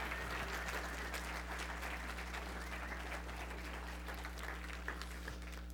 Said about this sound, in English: Can we just give Jesus a hand clap of praise this morning?